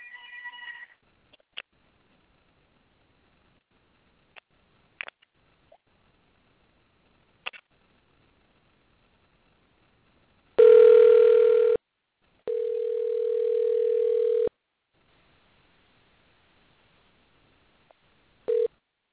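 A call being placed to a cell phone: scattered short beeps and clicks of dialing, then two long, loud, steady ringback tones separated by a brief gap, with a final short burst at the end.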